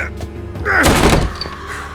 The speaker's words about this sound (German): Die Tür war verschlossen, also ließ ich sie eine meiner Schultern spüren.